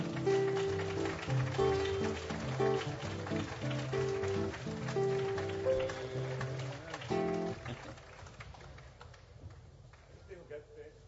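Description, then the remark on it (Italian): An audience claps steadily in a dense patter of encouragement for a musician while sustained musical tones and voices ring over it; the tones drop away and the clapping thins out over the last few seconds. “Un applauso di incoraggiamento,”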